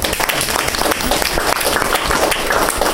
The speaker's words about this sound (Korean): 박수요.